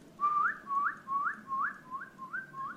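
A person whistles a repeating figure of about seven short rising notes, each sliding upward in pitch, at a steady rhythm with a soft low hum underneath and no talking, whistling to a horse while it urinates.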